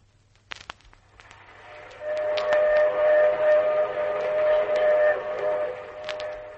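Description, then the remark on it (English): A couple of sharp clicks, then a loud steam train whistle on a Union Pacific train blows steadily for about four seconds over a low, constant rumble before easing off. “And even though we were on the train, Jack was determined to give us a real old...”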